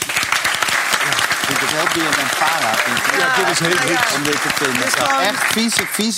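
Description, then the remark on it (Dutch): A studio audience on an SBS television show applauds steadily and loudly for the full six seconds, a dense wash of clapping while voices talk over it. “En daar zit weer voor te klappen op SBS.”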